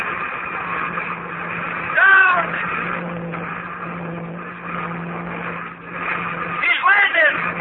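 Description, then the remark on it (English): A rocket from Luna City, its hull white hot from atmospheric friction, comes down over the field on roaring jet brakes, a steady, harsh engine rumble with a low hum beneath it, swelling twice with whining, swooping tones near the start and end. “Her jet brakes melting fire. She's right over the field now. She's coming down. Down. Down.”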